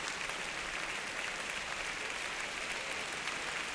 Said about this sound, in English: And the applause returns to Center Stage Orchestra Hall, Chicago, Rafael Kubelik.